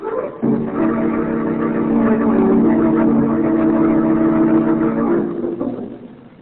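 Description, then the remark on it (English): A car engine starts up and runs steadily with a low, droning hum, fairly loud, holding for several seconds before fading out near the end. “Make for the car.”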